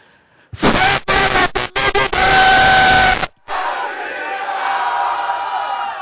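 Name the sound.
audience shouting prayers loudly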